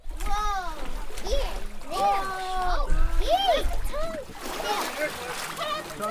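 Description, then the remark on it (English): Several voices, including children's, chatter and call out while water splashes and sloshes underneath, with a low steady rumble throughout; a crowd gathers on the boat ramp by the Dillingham City Dock as the skin and blubber of a harvested beluga whale are cut and put in plastic totes. “Beluga blood mixed with water on the boat ramp by the Dillingham City Dock. A crowd hovered around”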